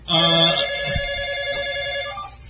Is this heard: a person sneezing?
no